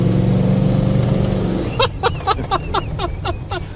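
An American car's engine hums steadily at a low pitch while driving up a hilly road, then a quick series of about eight sharp, evenly spaced knocking bursts rattles over the continuing motor noise.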